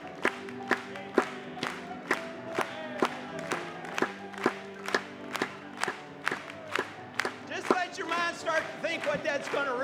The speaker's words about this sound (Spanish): Vamos a aplaudirle.